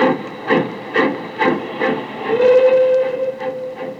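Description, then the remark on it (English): A steam locomotive departs, chugging in steady, rhythmic puffs, and midway a sustained train whistle sounds over the chuffing, with a hissing wash of steam throughout. No one speaks. “I stood there watching the red light of his train disappear.”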